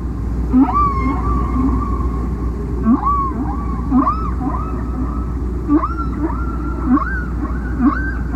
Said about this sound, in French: En étudiant les sons émis par les baleines, en classifiant les unités sonores, ils se rendent compte que les baleines produisent des séquences qui se répètent en boucle, et qu'il s'agit donc d'un chant.